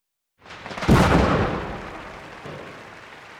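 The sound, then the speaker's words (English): A big pink firework bursts loudly with a deep boom, followed by a crackling, fizzing tail that fades out, with a softer second pop near the end. No voices are heard. “Look at that big firework! It's pink!”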